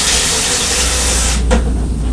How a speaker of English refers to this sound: was filling the kettle so she can make herself a cup of tea.